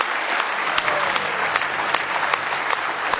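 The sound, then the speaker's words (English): A church audience claps together in praise of the Lord in the morning, a dense, steady burst of applause, with sharper individual claps popping out above the broad wash of hands, all at a fairly loud, even level. “Give the Lord one more hand clap of praise if you love Him this morning.”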